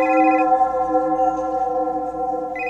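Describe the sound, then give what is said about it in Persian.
A phone rings with a steady electronic tone that holds for a few seconds, its pitch pattern shifting slightly partway through. It is fairly loud, with no voices. The call is from Zakaria and is answered. “دیدم زکریاست، یا نفس راحت کشیدم، تلفنو جواب دادم.”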